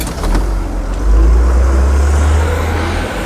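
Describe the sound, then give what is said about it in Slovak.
A bus's engine rumbles deep and steady, swelling slightly as it pulls away toward the nearby town of Moldava, with a broad hiss of road noise and no voices. “Len čo to dopovedal, vydali sa k miestu, odkiaľ chodia autobusy a odviezli sa do neďalekej Moldavy.”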